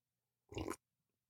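One quick slurping sip of hot cocoa, a short wet burst lasting a moment, followed by near silence and a faint click at the end.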